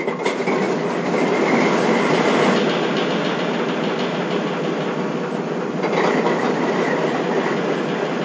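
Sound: train running on rails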